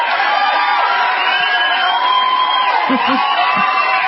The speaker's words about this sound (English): Woohoo! How about some applause for Danica grabbing the position?